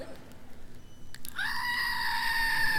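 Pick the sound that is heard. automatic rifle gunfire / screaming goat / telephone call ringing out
screaming goat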